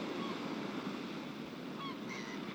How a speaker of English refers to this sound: This is the ocean. Always filled up from shore to shore like a briny cup.